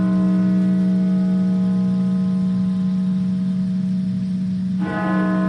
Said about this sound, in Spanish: Son las campanas de la Catedral Nacional de Washington repicando 500 veces en memoria de los fallecidos.